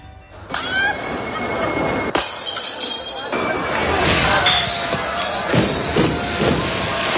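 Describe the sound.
Ceramic plates, cups and crockery thrown by residents from balconies and windows shatter on the street pavement at Easter, a busy, continuous clatter of crashes and tinkling shards, with crowd voices and a faint church bell tone underneath.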